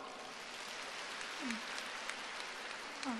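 An audience applauds in a steady, dense wash of clapping that holds even for the whole moment, fairly soft, with a couple of brief faint vocal sounds rising over it.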